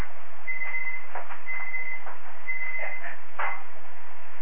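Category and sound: signal or alarm, beep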